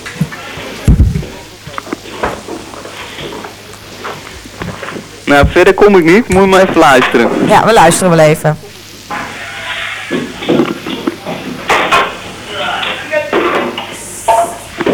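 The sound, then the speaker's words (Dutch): Metallic clanking, as if workers were juggling radiators, and scattered heavy banging from workers, sharp irregular knocks over steady background noise, with people talking and a stretch of loud overlapping voices in the middle. “Ja, er wordt voortdurend klinkende geluiden alsof ze met radiatoren aan het goochelen zijn. Ja. En vreselijk gebonk en zo.”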